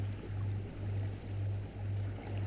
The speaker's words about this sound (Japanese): まだ波の音が聞こえていることにも気がつきます。大好きな波の音が聞こえてくる。